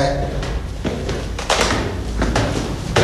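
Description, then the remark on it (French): A heavy fire door in a corridor swings open and shut, giving several dull thuds and clunks spaced about a second apart, over a low steady hallway hum. “Porte coup de feu, à maintenir fermée. Ouvrez la porte.”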